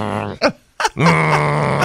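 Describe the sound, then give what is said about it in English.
A child growls in the background of a phone call in a low, drawn-out, throaty groan, with two short grunting bursts and a brief pause before a longer sustained growl that carries on steadily. “How many hours a day does he growl?”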